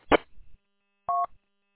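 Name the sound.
telephone keypad dialing tones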